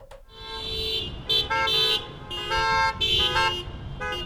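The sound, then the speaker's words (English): Several car horns honk loudly and repeatedly during a noise parade and vigil in Petersburg for Missing and Murdered Indigenous Peoples Day, from a line of cars with a fire truck and police cars, overlapping in bursts over a steady rumble of engines, starting and stopping in an uneven rhythm. “More than 20 people gathered in Petersburg earlier this week for a noise parade and vigil”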